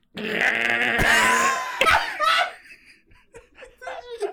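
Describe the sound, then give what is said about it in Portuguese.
A voice imitates a strained, agonized snore: a loud, harsh, gurgling rasp lasting about two seconds, trailing into breathy groans and a few softer vocal sputters. “Tava gritando, não era um ronco, era tipo agonia.”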